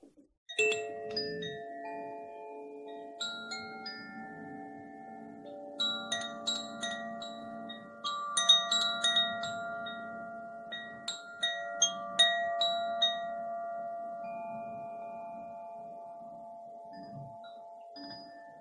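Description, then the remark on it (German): Koshi bamboo wind chimes, the Water and Earth element chimes, being played: a gentle, overlapping shimmer of clear tones, some struck notes rising above sustained harmonics that hang and slowly fade, with no talking. “Und die sind den Elementen zugeordnet von den Herstellern von Koshi. Das ist eine Marke.”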